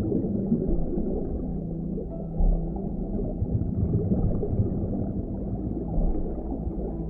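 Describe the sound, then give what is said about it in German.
Muffled calls from a group of dolphins sound underwater in the ocean, low and continuous over a murky, gurgling water ambience, with a brief louder swell midway and no voices. “Du tauchst weiter und entdeckst eine Gruppe verspielter Delfine.”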